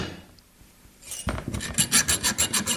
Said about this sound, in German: rückt mit einer kleinen Säge dem Kruzifix zu Leibe.